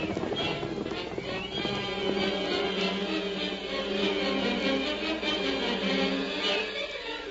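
Several horses with riders gallop past in pursuit of another horse, their hooves clip-clopping in a rapid, steady rhythm that stays fairly loud and continuous throughout, with a dense wash of other sound layered underneath.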